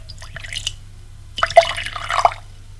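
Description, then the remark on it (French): Cognac being poured from a bottle into a glass in two short bursts, a brief trickle followed by a longer splashing pour with small clinks, over a low steady hum. “Elle revient avec un verre et une bouteille de cognac, le sert.”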